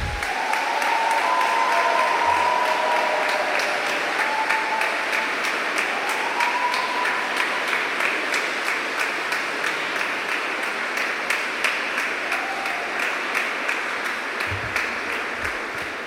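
Sustained applause from an audience at a competition event, a dense crackle of many hands clapping steadily for the whole stretch, with faint voices and cheers rising briefly in the background.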